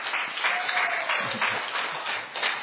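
An audience applauds a woman called up to stand by the host, a dense wash of many hands clapping at once with no pauses, holding a fairly even loudness throughout the short burst.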